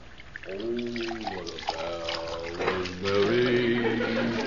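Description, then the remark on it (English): Water pours into a glass over ice, a steady trickling splash with a faint rising tone as it fills, under overlapping voices talking. “ain't you got that glass of water yet? Oh, I haven't troubled with these ice cubes.”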